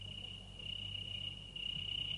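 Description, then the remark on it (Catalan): A cricket chirps continuously in a steady, high-pitched trill under a castle window in the evening, fairly loud over a low background hum, with no voices. “Un vespre, aquest senyor no podia dormir perquè sota la seva finestra hi havia un grill que no parava de cantar.”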